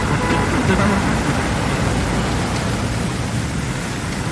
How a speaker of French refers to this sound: Alors c'est par le son qu'on entre dans Congo, le son de la pluie. Alors on entend les klaxons au loin, on voit un pare-brise sous le déluge.